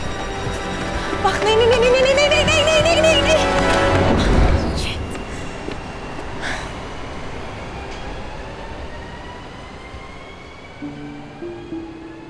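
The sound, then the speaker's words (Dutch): A train, the last train of the night at track 2, rumbles loudly through a station, its wheels squealing in rising tones before the noise fades into the quieter hum of a platform, with voices talking faintly in the background. “Welk spoor? Spoor 2. Misschien hebben we geluk en heeft hij vertraging.”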